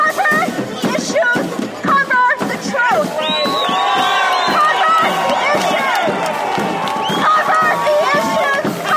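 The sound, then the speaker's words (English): A boisterous crowd of many voices shouting and cheering together in a continuous loud babble, with overlapping calls and whoops rising over the din throughout, at a small street protest in Chicago made up largely of young twenty-somethings. “In response, protesters took to the streets to raise issues of sustainability, corporate greed, and the environment.”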